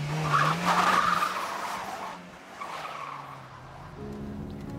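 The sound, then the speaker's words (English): A car's tires screech and skid loudly across pavement as it goes off the road, with an engine droning underneath, the squeal wavering for a few seconds before the rumble settles and a lower motor hum carries on alone. “After I got the car back on the road again, I felt like a fool.”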